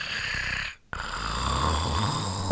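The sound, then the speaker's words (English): Steady snoring from a sleeping, dreaming tiger: a long rasping breath, a brief silent pause, then another drawn-out rumbling snore. No one speaks. “Tiger is sleeping.”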